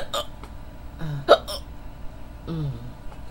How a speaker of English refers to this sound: I'm really trying to fall asleep. But I can't due to these hiccups.